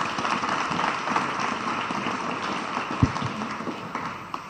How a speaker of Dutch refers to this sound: voor de afronding van deze avond een heel groot applaus en doodse stilte voor Atta de Tolk.